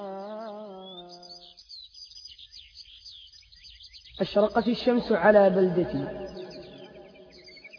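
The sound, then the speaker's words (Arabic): Sparrows chirp in trees in a steady, high-pitched twitter throughout, fairly faint and in the background, while a voice speaks at first and then louder talking joins partway through. “بردت العصافير على ما تبقى فيها من شجر”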